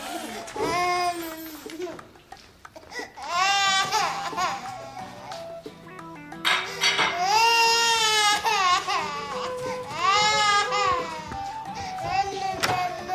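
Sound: baby crying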